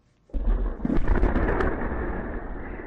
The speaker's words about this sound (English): Surveillance video captured this explosion on Monday in Russia, hundreds of miles from the Ukrainian frontier. The culprit for the deadly blast at the main base for Moscow's long-range bombers was a drone, believed to be Ukrainian.